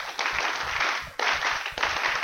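A crowd of college fans claps continuously on a chanted call, a dense, crackling wash of many hands filling the whole stretch, with two brief dips where it thins before surging back.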